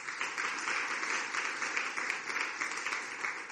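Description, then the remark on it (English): A crowd at Last Adam Tabernacle applauds the worship team, many hands clapping in a dense, continuous patter that stays fairly even in loudness throughout, with no voices standing out. “Give a big hand clap to the worship team.”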